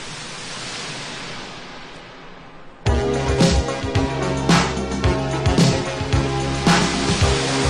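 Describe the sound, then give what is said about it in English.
A steady, hissing wash of crashing-wave noise fills the opening seconds of a 1984 music track, then abruptly gives way to loud synth music with punchy beats and a bright, sustained chordal tone. “You hear that crashing wave sound?”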